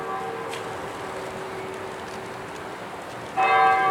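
Church bells ring with a sustained, humming resonance that lingers throughout, then a fresh, louder strike near the end brings bright overtones swelling back in. No one speaks.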